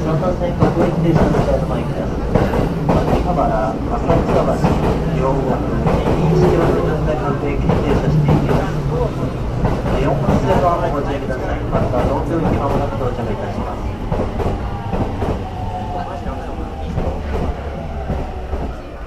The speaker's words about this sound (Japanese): 3番線には各駅停車津田様駅到着いたします。3番線のご注意ください。4番線には神田東京駅到着いたします。3番線4番線ともご注意ください。電車到着いたします。